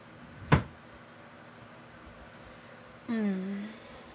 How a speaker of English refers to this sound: Well, yeah, I just walked right in since you left the door open. Oh, I guess I better shut it behind me. We wouldn't want any of the neighbors to come wandering over.